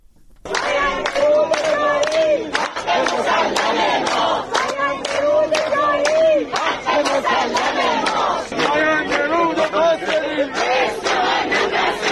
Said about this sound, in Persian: جمعی از مردم اصفهان روز جمعه با تجمع و سردادن شعار حمایت خود را از کشاورزان معترض به نگرفتن سهمیه آب برای کشت پاییز اعلام کردند.